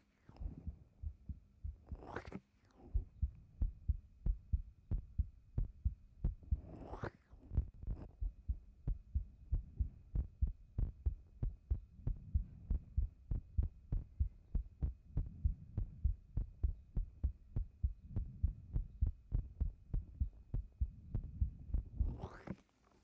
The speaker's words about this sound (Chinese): 说实话，刚看到先生的时候，人家的心跳就不快了呢。真的，不信给你听听。过来啊，把头靠到人家的胸口。心跳了吗？